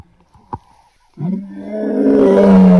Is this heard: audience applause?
no